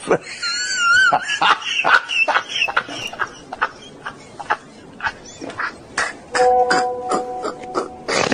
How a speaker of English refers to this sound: Oh, that was an evil growl.